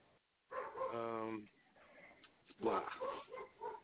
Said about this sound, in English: Oh, my dogs are, like, going crazy. I'm a little distracted because my dogs are, like, inside the house barking their head. Oh, I forgot to close the blind. So they're looking outside